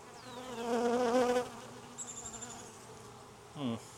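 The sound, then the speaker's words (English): A steady swarm of bees around hive boxes hums, their buzzing swelling and wavering with shifting pitch, while a few individual bees zip past the microphone. “Which also makes sense with why are there more bees over here is because they kind of went to where the queen was with these side-by-sides that I tried to make queenless.”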